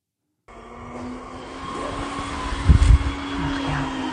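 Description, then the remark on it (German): A robot vacuum cleaner runs with a steady whirring motor drone and a faint tonal hum, broken by a brief cluster of low bumps and clatter partway through. “Ja, wir hören kurz in den Kampf mit dem Staubsaugerroboter rein.”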